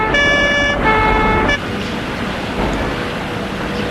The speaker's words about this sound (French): Enfin, la voiture s'arrête.